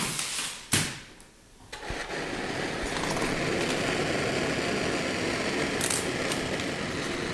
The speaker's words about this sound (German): Der fauchende Spezialbunsenbrenner ist das wichtigste Arbeitsgerät für die Okularistin, wenn sie künstliche Augen aus Glas